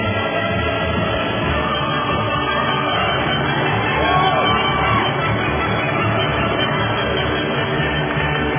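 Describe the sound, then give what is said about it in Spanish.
A large crowd applauds and cheers in a dense, continuous wash of noise, steady and fairly loud for the full stretch, with scattered shouts rising out of the mass. “Aplausos, pues.”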